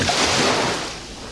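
A single broad wash of surf, like a big ocean wave breaking, loud at first and then slowly subsiding into a hiss, used to open the radio show 'Ōnami no Big Wave' (大波のビッグウェーブ). No voices are heard.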